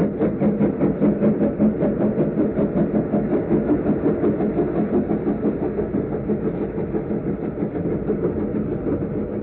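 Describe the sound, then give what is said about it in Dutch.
A steady rumbling drone of an idling train engine heard from inside a carriage of a connecting train heading south, with a faint rhythmic pulsing and no voices throughout. “We zitten nu in een aansluitende trein naar het zuiden en die heeft gewacht.”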